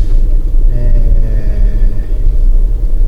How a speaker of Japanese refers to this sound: ただいま、名古屋から、実家の岐阜県に向かってですね、車を走らせておりますが、パラパラパラパラと降ってまいりました。